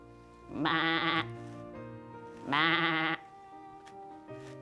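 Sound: sheep bleating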